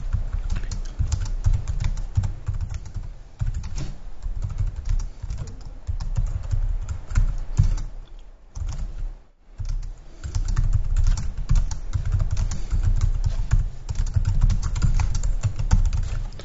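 Steady typing on a computer keyboard while writing a post, a fast stream of crisp key clicks with one brief pause midway, over a low background hum and no voices.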